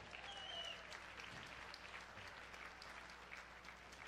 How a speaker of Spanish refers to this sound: Iglesia, se ven bellas, desde aquí se ven bellos. Deseo un aplauso.